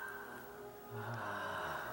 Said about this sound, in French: Respirer par la bouche est très important. et nous allons le faire dans tous nos exercices, dans les temps de pratique.